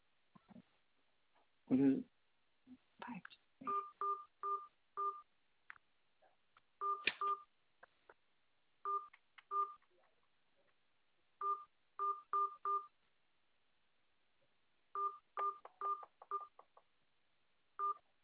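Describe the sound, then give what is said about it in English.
A caller enters an account or card number at an automated phone prompt: a long series of short two-tone keypad beeps, pressed in quick clusters with brief pauses between groups, clear over a quiet line with a few faint bumps at the start. “Please say your account or card number or enter that using your phone keypad.”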